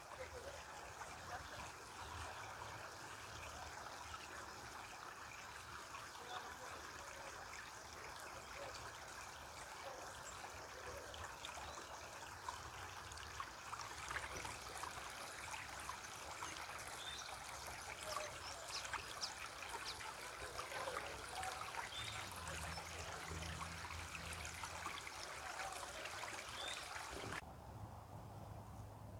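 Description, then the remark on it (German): A babbling brook flows steadily, a continuous bright rush and trickle of water that holds an even level throughout before cutting off abruptly near the end. “Und dann schließ deine Augen und werf das symbolisch alles in den Bach hinein.”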